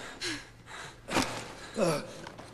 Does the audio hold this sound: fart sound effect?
no